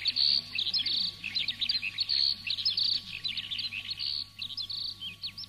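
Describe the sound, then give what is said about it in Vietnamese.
A skylark sings a continuous, rapid, high-pitched warbling song full of trills and chirps, steady throughout, over a faint low background hum. “nghe mê mẩn đến nỗi cậu quên hết mọi sầu thảm, quên hết mọi sự trên thế gian ngoại trừ con chim chiền chiện nhỏ”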